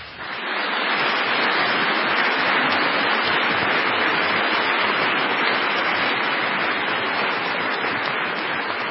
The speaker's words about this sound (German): Dann dürfen wir jetzt mal klatschen.